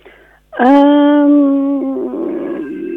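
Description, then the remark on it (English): A toddler lets out one long, loud yell with a steady, tonal pitch lasting about a second and a half, then trails into rougher, lower vocalizing. No one else speaks. “Sorry, I can hear my toddler yelling.”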